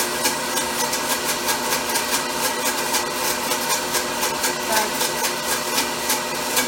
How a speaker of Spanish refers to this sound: Ahí vas oyendo cómo la licuadora va más lenta, porque ya se va poniendo cremoso. Con una consistencia diferente.